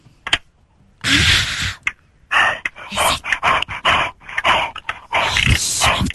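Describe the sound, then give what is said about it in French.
Wet mouth noises of someone licking a keyboard and trying to bite a key, in a string of breathy, uneven bursts mixed with dog-like huffs and gasps, loud. “Essaye de croquer une touche, …. Croque une touche.”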